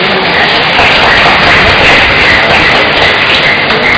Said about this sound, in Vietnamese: thì chúng ta cho một tràng pháo tay đi.